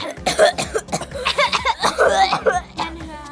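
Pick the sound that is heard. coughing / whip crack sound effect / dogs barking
coughing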